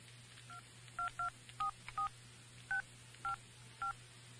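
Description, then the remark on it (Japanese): A series of about nine short dual-pitched keypad beeps from a mobile phone that is out of its coverage area, tapped at an irregular pace over a low steady hum, clear with no talking. “もう非常ボタンも全然つながんない。 携帯電話圏外だよ。”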